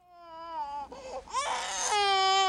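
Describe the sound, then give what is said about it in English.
An infant being examined in a hospital emergency room cries loudly and continuously, wailing in long, strained, high-pitched bursts with brief catches of breath between them and no other voices. “Look, he's still crying.”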